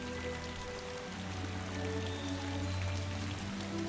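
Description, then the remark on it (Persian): Steady rain falls throughout, a continuous patter of drops on a surface with a low, even background hum and no voices. “بارون نمیذاره پرواز کنی؟”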